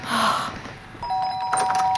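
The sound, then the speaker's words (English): A doorbell rings with a clear electronic chime, two steady ringing tones starting halfway through and sustaining to the end, after a brief stretch of soft hissy noise. “did you hear the door?”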